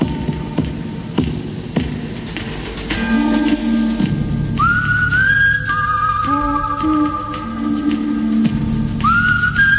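A clear, sustained whistle carries a slow, wavering melody, sliding up into long held notes and repeating near the end, over a steady low humming drone with no voices.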